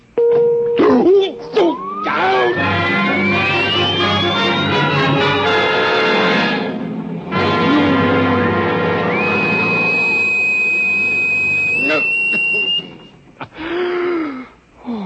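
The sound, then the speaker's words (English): A loud electronic buzzing drone from a torture vibration device set to vibration level 2, with a whine that climbs steadily in pitch, mixed with strained groans, then a sustained high tone before it cuts off and a man gasps. “So go ahead. Vibrate. Vibration level 2. It will be very painful”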